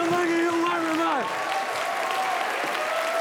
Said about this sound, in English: He lunges from side to side while clapping.